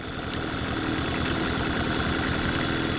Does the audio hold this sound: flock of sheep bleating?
no